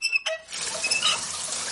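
A shower tap squeaks as it turns, followed by a steady rush of water pouring down, close and fairly loud, with no voices.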